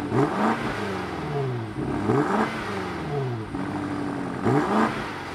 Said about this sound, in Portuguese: E dá para regular o som do escape.